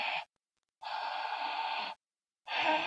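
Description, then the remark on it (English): A voice makes a harsh, breathy back-of-the-throat H sound, a voiceless pharyngeal fricative made by narrowing the pharynx with the tongue root and blowing air through it, repeated in three strong bursts of rasping air with silent gaps between; the middle one is longest. “The back H is what you get when you narrow the pharynx and blow air through it.”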